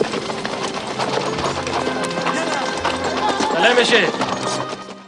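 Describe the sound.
The horses' hooves of Mujahideen horsemen clip-clop steadily through a dense, noisy mix with murmuring voices, the whole scene swelling a little louder toward the end.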